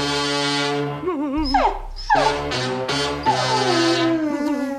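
A dog whines and howls in a continuous run of high, wavering cries that slide up and down in pitch, loud and alone with no talking.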